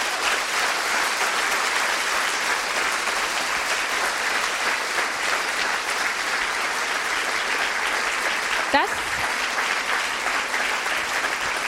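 Sustained audience applause at a steady, dense level at the end of an hour-long live history talk at the Humboldt Forum, a crowd clapping continuously for several seconds with a brief sharp sound near the end.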